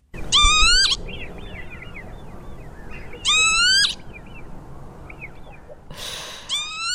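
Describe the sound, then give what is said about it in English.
Bird calls ring out in three loud bursts of harsh, rising cries, with softer calls between them over a quiet outdoor background and no talking. “It's not tweet of the day.”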